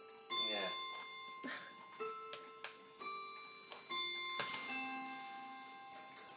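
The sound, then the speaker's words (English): Several clocks chime at once, overlapping ringing tones struck one after another and lingering, with steady ticking underneath and a faint murmur in the background. “Blowing clocks. They always start when you want to record something.”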